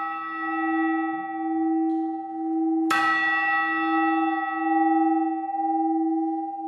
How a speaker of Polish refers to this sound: Ludzie sobie nakręcali zegarki według zegara z wieży zamkowej. Teraz jest w renowacji. Ale to co najciekawsze, ten zegar był połączony z dzwonami. Dwa dzwony. Kwadransowy, co 15 minut tutaj dzwonił.